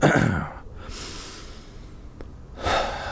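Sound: deep breathing exercise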